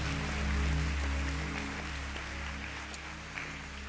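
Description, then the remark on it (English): A church audience gives the Lord a hand clap after a prayer, a dense, continuous patter of many hands holding steady for several seconds before easing off slightly toward the end, with no talking over it. “Give the Lord a hand clap, and you may be seated.”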